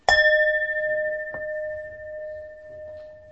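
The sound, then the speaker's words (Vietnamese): A Buddhist temple bell is struck once as a call for Buddhist followers to return to mindfulness. Its clear, bright ringing tone sustains steadily and fades only slowly, with a faint soft knock partway through and no voices. “Chắc xin mời quý Phật tử nghe tiếng chuông chúng ta trở về chánh niệm ha.”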